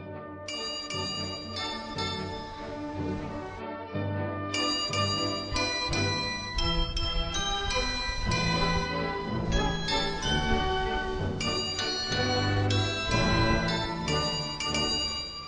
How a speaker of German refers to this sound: Das ist nämlich das Glockenspiel auf dem Marktplatz in Hildesheim.